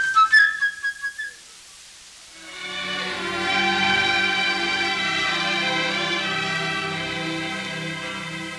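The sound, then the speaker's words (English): A flute, representing the bird character in an orchestral tale, trills a quick, bright run of high chirping notes, then falls silent as a fuller orchestra swells in with sustained, layered chords. “My dear children, young and old, each character of this tale is represented by an instrument in the orchestra. The bird by a flute.”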